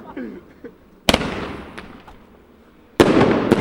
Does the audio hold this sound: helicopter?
no